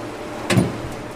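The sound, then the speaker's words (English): A brief, heavy crunch as a large blue excavator unloads concrete debris scooped from an enormous mound into a dump truck bed in Haiti. A single rumbling clatter rises over a steady outdoor machinery hum and fades quickly. “A large blue excavator hovers over an enormous mound of concrete debris. It scoops from the pile and unloads into a dump truck.”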